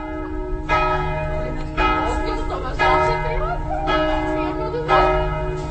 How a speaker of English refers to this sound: It's only once we walk across the border into Slovakia that I start perking up a little, enough to enjoy an early evening beer in the town of Skalica as the church bells chime on the main square.